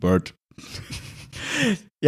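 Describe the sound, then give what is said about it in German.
A voice with the reverb effect turned up, drenched in heavy reverb, short spoken bursts and breathy sounds trailing into a washy, smeared echo tail that lingers between words. “Falls ihr euch immer gefragt, was der Reverb ist, der Reverb macht so einen schönen Hall auf die Stimme.”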